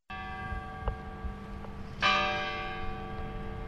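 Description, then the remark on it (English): The large clock bell of the historic courthouse in Adel, Iowa, strikes once as it chimes the hour, a bright clang whose rich ringing tones hang and slowly fade over a steady background hum outdoors. “The historic courthouse in Adel, Iowa, 30 minutes west of Des Moines, chimes the hour from a building bursting at its seams.”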